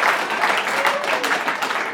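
audience clapping

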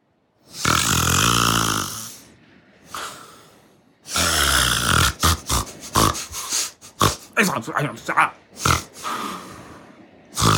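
man snoring

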